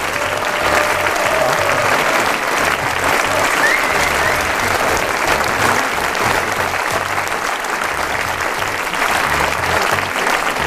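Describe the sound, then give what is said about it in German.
Sustained audience applause for Federal Councillor (Bundesrat) Albert Rösti, a dense crackle of many hands clapping at steady loudness for about ten seconds with no voices over it. “Ein Applaus für den Bundesrat Albert Rösti.”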